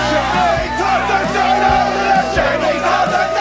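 A loud, dense crowd of voices in the local pub in Ted Lasso, recorded over Zoom. Chatter and shouts overlap continuously, with occasional dull thumps underneath the steady babble.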